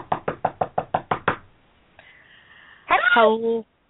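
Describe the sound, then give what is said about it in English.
A quick, even series of about eight firm, clear knocks on a door by a visiting woman, followed after a pause by a brief thin tone and then a short burst of voice. “But I see her coming up the walk, and I know that here in just a moment she'll be knocking, and when she does...”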